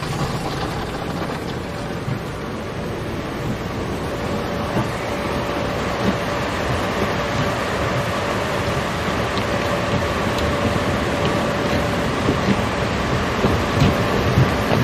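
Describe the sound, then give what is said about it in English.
A dense, steady roar of spraying water from an automatic car wash drums continuously against a cab moving through it, with a low mechanical rumble and a faint constant hum underneath. No one speaks. “He continues as they move through the car wash.”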